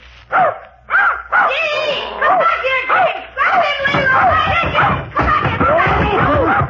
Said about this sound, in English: Just my nephew's puppy. Oh, not at all. I love dogs. Here, boy. Nice little fellow.